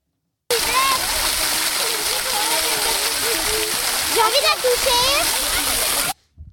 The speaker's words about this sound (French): Vous venez d'entendre le son de la cascade et des élèves.